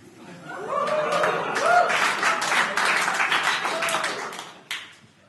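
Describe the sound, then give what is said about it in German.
An audience at a reading breaks into dense, steady applause mixed with scattered laughter after the title of a personal text, 'Vorhautverengung' (phimosis), is announced, holding at a fairly loud level for about five seconds before tapering off abruptly. “Bei einer Vorhautverengung klatscht man nicht so euphorisch.”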